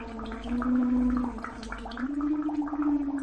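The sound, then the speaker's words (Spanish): A voice sings a tune, recognisable as Happy Birthday, through a straw into a glass of water as a water resistance therapy exercise. Its steady humming notes step up in pitch midway while a constant gurgling stream of blown bubbles crackles over it. “Coge un vaso con agua, una pajita, sopla para mantener un flujo de burbujas constante e intenta cantar una canción.”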